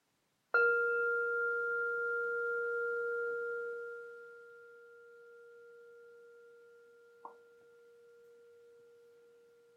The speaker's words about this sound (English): So this sound of the bell will carry our rejoicing out into the cosmos.